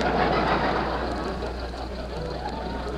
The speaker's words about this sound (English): Oh, Jack, stop picking on Rochester. He's doing the best he can with this jalopy. Mary, if you call this car a jalopy once more, you can get right out and walk.